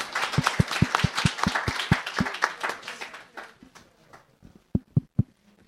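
A small group claps in a brisk, fairly steady rhythm for a couple of seconds, then the applause thins into a few scattered, sharper claps before stopping.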